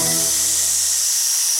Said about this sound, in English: And by a lake he heard a snake.